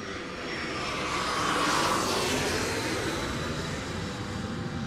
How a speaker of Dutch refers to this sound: En op een gegeven moment, dat was dan, zeg maar, laat in de middag, hoor ik een vliegtuig overkomen.